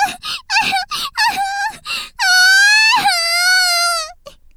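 Someone cries: a run of short, choked whimpering sobs, then a loud, drawn-out wailing cry that trails off into a faint final sniffle.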